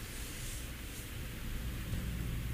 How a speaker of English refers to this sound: It's the rain. It's the rain. The rain is gumming up everything tonight.